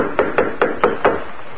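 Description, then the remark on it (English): Five quick, evenly spaced knocks rap on the wooden door of a small railway caboose at night, moderately loud, with no voices around them. “He stepped aboard the small car and tapped on the door.”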